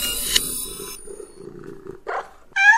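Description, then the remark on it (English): A cat noise plays from a computer program: a high, strained yowl, then a low rumbling growl, and finally a short, loud meow-like cry. No one speaks. “Okay, cat, stop.”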